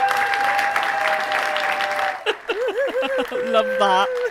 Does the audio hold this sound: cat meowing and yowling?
no